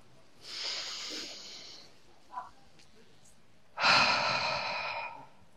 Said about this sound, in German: wenn ihr Lust habt, dann atmet mit mir gemeinsam mal ganz tief durch die Nase ein bis in den Bauch.